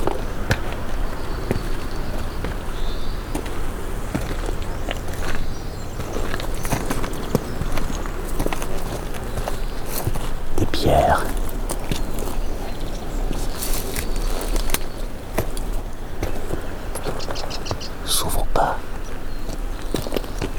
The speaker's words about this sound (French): Voici. Le roulement gravillonneux.